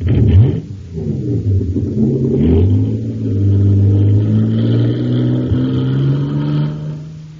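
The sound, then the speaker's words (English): An engine roars and revs up, its pitch climbing and then holding as the Shooting Star, a racing jet boat in a race on Mars, accelerates away after being filled with super fuel. The engine stays loud and steady throughout, and no voices are heard. “Wow, look at the Shooting Star go.”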